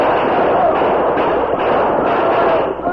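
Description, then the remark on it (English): A loud, dense barrage of gunfire as crooks ambush an Army payroll wagon and soldiers shoot back, the shots blurring into a continuous crackling roar that barely lets up across the whole stretch, with no clear voices. “The other three, afforded protection by the wagon, shot five of the crooks before they fell”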